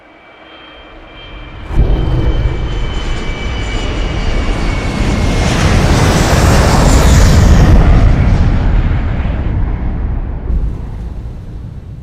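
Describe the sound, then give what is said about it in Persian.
Steady, loud roar of jet engines heard from inside the cockpit of US Airways Flight 1549 on 15 January 2009, swelling in after a short quiet start and holding as a dense, rumbling drone with no voices. “محض اطلاع، این مکالمه صوتی پرواز 1549 یو اس ایرویز در تاریخ 15 ژانویه 2009.”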